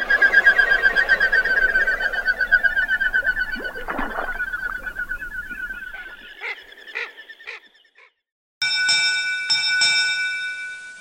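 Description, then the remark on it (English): Whistling wing beats of a common goldeneye pulse rapidly and steadily, loud, then fade, followed by a few sharp clicks and a brief ringing, bell-like tone. No one speaks. “And we close with another short listen to the whistling wing beats of the common goldeneye.”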